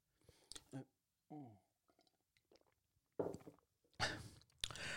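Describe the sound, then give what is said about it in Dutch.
Someone sips tea: a few short, airy slurps in quick succession toward the end, after quieter mouth clicks and a brief hummed sound at the start. “Even lekker een slokje thee erbij.”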